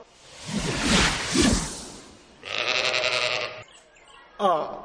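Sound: sheep bleating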